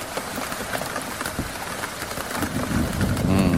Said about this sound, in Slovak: Mňa to baví počúvať. Hej? Áno, klepotajúci dážď, je to také podľa mňa príjemné napočúvanie.